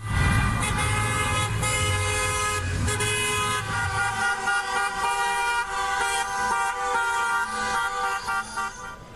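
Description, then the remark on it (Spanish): Many car horns honk continuously and overlapping, a loud sustained chorus from a line of cars decorated with yellow and black balloons and signs, driven by temporary public workers protesting in Madrid, Spain, with engine rumble underneath at first. “Marcharon en sus autos adornados con globos amarillos y negros y con carteles con sus reivindicaciones rechazando las condiciones precarias laborales en Madrid y en otras 26 ciudades.”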